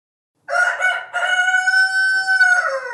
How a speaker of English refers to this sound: It's a little cliche to start a story about a farm with a rooster. But in my defense, that's not your typical big city sound effect.